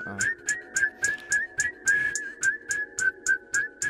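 A person whistles a wavering, continuous tune over a steady, evenly spaced percussive beat. The whistle is clear and prominent, and no one speaks.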